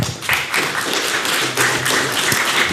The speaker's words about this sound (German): Ja, Applaus